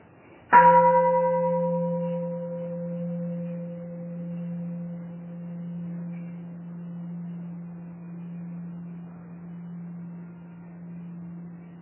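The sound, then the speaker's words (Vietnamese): A single deep meditation bell is struck once during a Buddhist talk, for the assembly to breathe along with, a sharp attack that settles into a long, steady ringing tone with a low hum, slowly fading over about ten seconds with no voices. “Xin mời đại chúng thở theo tiếng chuông, rồi tôi sẽ nói tiếp.”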